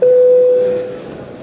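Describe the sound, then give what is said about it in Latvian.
A parliament voting bell, rung before a vote on a proposal by deputy Andrejs Elksniņš, sounds as one loud, steady electronic tone at a single mid pitch. It holds for under a second, then cuts off, leaving faint background murmur. “Paldies, lūdzu zvanu.”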